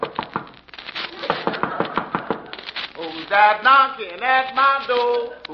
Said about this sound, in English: A thatched hut. Let's find out who lives here. Knock on the door.